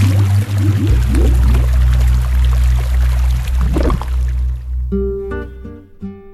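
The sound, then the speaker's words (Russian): A heavy, loud splash as someone falls from a bridge into a river, followed by several seconds of rushing, pouring water, then a few short musical notes ring out at the end. “На мосту его мотнуло, повело, перевернуло, и с моста в реку бултых.”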